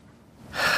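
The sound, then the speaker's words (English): A person imitates a sharp gasp for air, as if submerged in water: a quiet moment, then a sudden loud, breathy inhalation rushing in and holding to the end. “Or does it more like you think of being submerged into water and gasping for air?”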